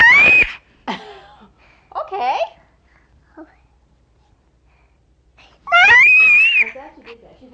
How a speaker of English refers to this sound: But she's not unhappy screaming. It's just a getting it out kind of scream.